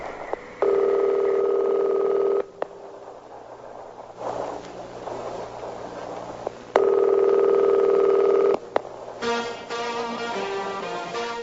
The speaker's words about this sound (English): Now, I think that what happened was your daughter called, or you butt-dialed your daughter. Is that it? I butt-dialed my daughter, yeah. Okay. We're going to hear the phone pick up, I guess, on her end or something like that.